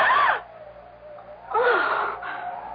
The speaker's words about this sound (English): As he passes a darkened doorway, he hears a gasp.